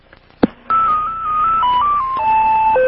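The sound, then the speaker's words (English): A short click, then an answering machine's electronic beep tone plays as a cute little melody of steady, pure notes stepping up and down before settling lower, lasting about two seconds with no voices. “Cute tone. There's the tone.”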